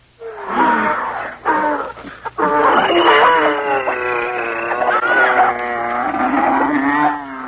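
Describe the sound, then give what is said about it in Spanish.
A loud chorus of wild animals, a male and female of each species, roaring and bellowing as they board Noah's boat, overlapping calls rising and sustaining almost without pause for several seconds before cutting off. “Entonces Dios le dijo: reúne a tu familia y de cada especie de animal, pon macho y hembra, entra con ellos en el barco.”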